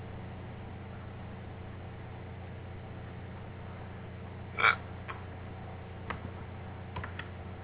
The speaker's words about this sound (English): No, I just, that was a hiccup.